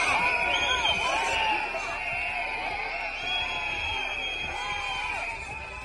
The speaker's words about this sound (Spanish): Son los gritos de los agricultores que se han concentrado en el recinto ferial de Zafra para recibir al ministro Luis Planas, que visitaba la localidad para inaugurar la feria.